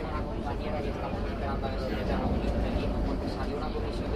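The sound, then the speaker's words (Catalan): Steady, dense rumble inside a moving metro car on line 2, Paral·lel to Badalona, at 3:15 in the afternoon, next station Sant Martí, with a constant low roar and rattling, and indistinct passenger voices murmuring beneath the noise. “Metro, línia 2, paral·lel Badalona, 3:15 de la tarda.”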